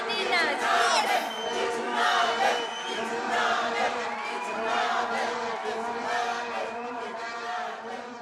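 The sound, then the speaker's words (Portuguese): A crowd of girls on a sports field shouts and cheers in celebration, crying with joy, in overlapping, high-pitched voices, with whoops and excited yells rising and falling continuously at a steady, loud level. “No campo, as meninas gritam, choram de alegria e recebem mimos dos colegas e professores do Instituto Politécnico O Futuro é Hoje.”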